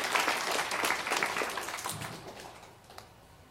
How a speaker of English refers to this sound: dads, stand up and let's everybody give them a rousing applause. Thank you, dads. Dads, awesome. Stay standing.